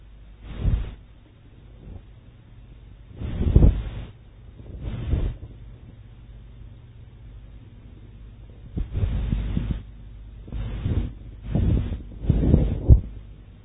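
Pages of a Bible being turned to 1 Kings 15, verse 18, heard as roughly eight irregular bursts of muffled, papery rustling with thumpy low rumble, fairly loud against a quiet hum, with no one speaking.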